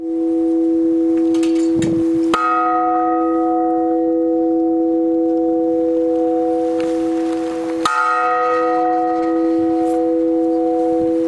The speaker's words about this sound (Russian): У храма Иоанна Предтечи в Волгодонске появились новые колокола. Чин освящения на минувшей неделе совершил глава Волгодонской епархии.